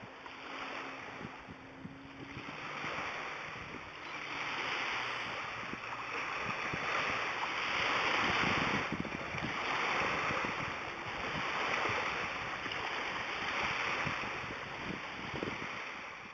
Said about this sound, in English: I just sat on a dock in the harbor in Vancouver. And then I played these waves for you and said, like this? And that was perfect.